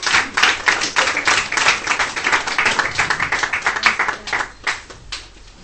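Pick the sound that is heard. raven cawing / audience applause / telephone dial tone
audience applause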